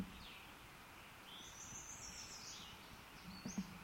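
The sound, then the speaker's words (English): A second bird calls with thin, high chirps and twittering notes, faint against a quiet hiss of background noise, with a short burst of calls near the end. “Second bird off to the side.”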